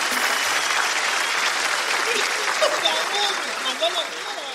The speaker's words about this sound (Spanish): Sí. Carajo. Un aplauso para mi causa, carajo. Un aplauso para que va, para que sobreviva y viva de puta madre con ese talentazo que tiene, weón.